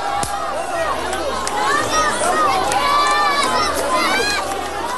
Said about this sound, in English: Sound of a jubilant crowd of Palestinians gathered outside a hospital in the Gaza Strip after learning of the ceasefire agreement between Israel and Hamas.